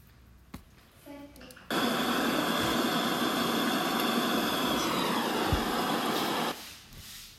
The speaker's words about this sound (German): Der Helikopter landet auf die Berge bei der Zücke.